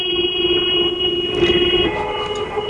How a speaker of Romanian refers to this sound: Nu mă așteptam, sincer nu mă așteptam la reacția asta din partea ascultătorilor. Claxoanele astea...